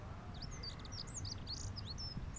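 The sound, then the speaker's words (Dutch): A treecreeper calling from behind the listeners gives thin, very high-pitched calls, a scatter of short sharp notes repeated through the moment over a low steady outdoor rumble, with no one talking. “Trouwens, achter ons roept een boomkruiper”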